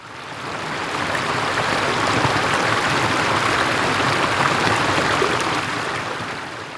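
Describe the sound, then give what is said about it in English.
Rushing water pours steadily through stables for several seconds, a dense, broad hiss and churn that swells in, holds loud, then eases slightly at the end, with no voices. “The water runs through the stables.”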